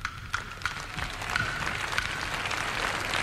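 An audience breaks into applause, a dense, steady wash of many hands clapping that swells after a few sharper early claps and holds at a moderate, even level.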